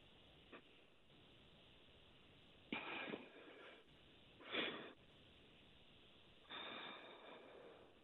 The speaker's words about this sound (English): I could hear it in your breathing.